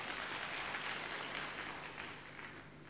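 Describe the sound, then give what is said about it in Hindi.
A group applauds for themselves, a dense, steady wash of many hands clapping at once for about three seconds, holding level before easing slightly toward the end. No one speaks. “दीदी जी देखो सभी ने हाथ उठाया है, सब ताली बजाओ अपने लिए।”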